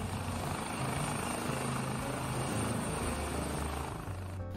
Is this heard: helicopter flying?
yes